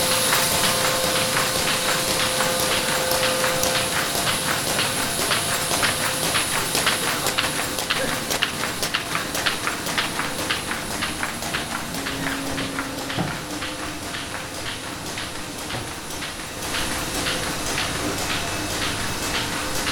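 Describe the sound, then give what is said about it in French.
Steady, loud industrial machinery runs throughout, a dense mechanical clatter with rapid repetitive clicking and a faint sustained hum, from paper printing and finishing machines (folding, assembling, cutting) at a printing company. “Et là, ça va être un peu bruyant, je suis désolé. Toute la partie impression papier.”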